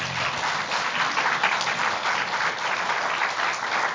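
A crowd applauding steadily, many hands clapping together in a dense, sustained wash of sound without any talking: a round of applause for fathers on Father's Day.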